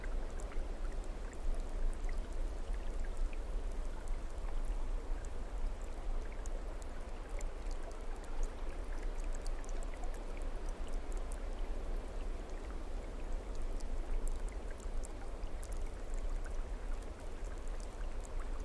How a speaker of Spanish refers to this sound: Muy poco a poco dejas que el agua que cae con fuerza pura de esa montaña comience a limpiarte.